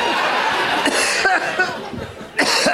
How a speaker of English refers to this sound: I've just been drinking since I got up here. I don't know why I'm coughing suddenly. But I'm really losing it.